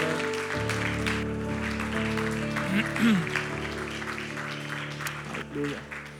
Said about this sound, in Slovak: chceme vám vyjadriť takým jedným potleskom to, že sa tešíme z toho. Come on! Tešíme sa z toho.